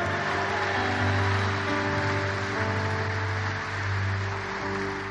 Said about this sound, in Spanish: Oh, vamos, dele un aplauso fuerte. Dele un aplauso fuerte.